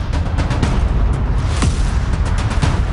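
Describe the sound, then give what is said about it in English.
A loud, dense barrage of New Year's fireworks at the Burj Khalifa in Dubai, with rapid booms and crackling bursts overlapping into a continuous rumble and no voices. “The world's tallest building, the Burj Khalifa, was lit up with a dazzling display of fireworks and projected images.”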